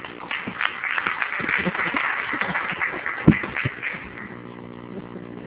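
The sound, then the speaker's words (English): People at a meeting applaud the co-chair, a dense crackle of many hands clapping at once that holds steady for several seconds, then thins and fades toward the end. “As we break, I think we all need to give a big round of applause to”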